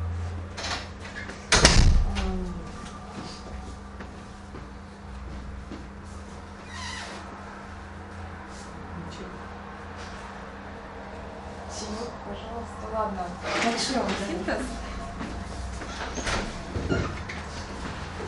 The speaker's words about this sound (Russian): Закрой дверь, пожалуйста. Сейчас, секундочку. Просто дует очень сильно.